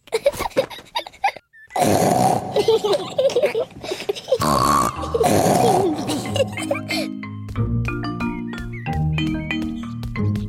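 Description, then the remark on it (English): Several loud, rough snorts and grunts in close bursts, made by voices imitating pigs in the Peppa Pig cartoon, then giving way to light, bouncy music. “I want to make big snorts too.”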